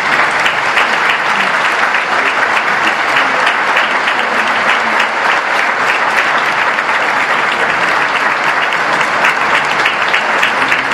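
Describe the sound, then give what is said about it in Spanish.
Sustained audience applause for the rector, Dr. Miguel Ángel Navarro, at the unveiling of his oil portrait in a gallery. A dense steady wash of many hands clapping at an even, loud level throughout, with no pauses and no voices standing out. “el aplauso que acaba de recibir el doctor Miguel Ángel ahorita a esta comunidad”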